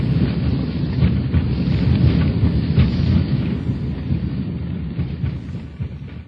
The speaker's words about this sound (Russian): Произведена посадка. Самолет идет по полосе.